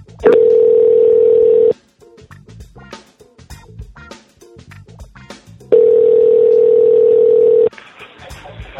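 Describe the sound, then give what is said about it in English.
A steady telephone dial tone hums loudly, breaks off into a quick series of dialing beeps as a random person is called, then the tone returns for a couple of seconds before cutting out again. “In a moment you will hear a dial tone.”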